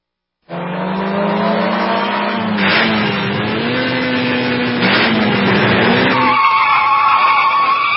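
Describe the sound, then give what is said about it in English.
Race cars with Honda and Chevrolet engines at the Indianapolis 500, watched by 300,000 people, roar loudly past, engines whining and shifting pitch as they speed by, with a sustained high mechanical drone and tire noise throughout, no voices. “Car. 300,000 people were there to watch it. The Indianapolis 500.”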